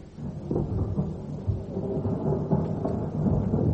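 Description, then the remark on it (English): A heavy thunderstorm: deep, rolling thunder rumbles continuously under a steady wash of rain, fairly loud, with no voices. “That storm's giving me one of my headaches.”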